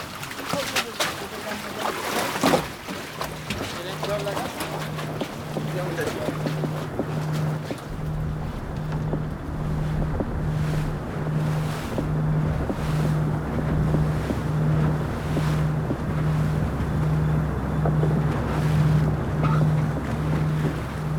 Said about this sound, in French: Oui, ouais, là, on va partir le bateau, en plus, il y a des vagues, ça bouge.